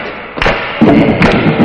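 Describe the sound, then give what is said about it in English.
A crowd stomps their feet together, producing heavy, booming thuds in a rough steady beat, with a sustained low rumble of many feet between the main hits. “Everybody, stomp your feet.”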